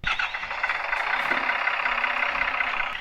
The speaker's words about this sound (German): Der Bus.